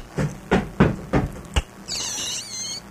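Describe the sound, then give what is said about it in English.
Five firm, solid knocks on a door in a slightly uneven rhythm, followed by a high, wavering squeal that lasts about a second. No one speaks. “Somebody's at the door.”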